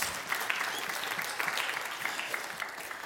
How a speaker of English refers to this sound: Give him a nice round of applause. Thank you very much. I appreciate it.